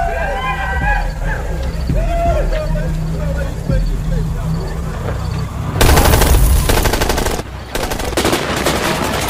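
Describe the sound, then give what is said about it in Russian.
Muffled voices and a low rumble give way to loud bursts of rapid automatic gunfire that crackle on for several seconds, pausing briefly before another volley. “Кто открыл огонь?”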